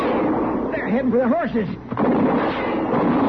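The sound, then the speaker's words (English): Gunshots ring out amid a rough, noisy burst of sound as a man is shot, with a voice crying out briefly in the middle before the blasts continue. “I'll see about the man I shot.”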